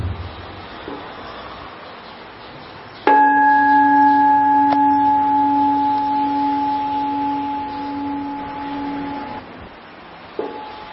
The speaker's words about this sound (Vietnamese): Xin đại chúng nhắm mắt lại để nghe tiếng chuông và quán chiếu những gì mà tôi vừa chia sẻ.